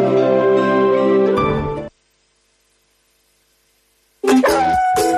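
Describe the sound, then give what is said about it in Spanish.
A dog barks and howls loudly in long drawn-out cries, falls silent for a couple of seconds, then starts up again with sharp yelps sliding into another howl. “En Ribadeo ya dispones de una residencia canina para que te despreocupes de tu perro si tienes que irte de viaje, de vacaciones.”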